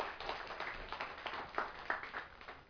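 A short burst of audience applause: many hands clapping at once in a dense, steady patter, with a few sharper claps standing out, and no one speaking.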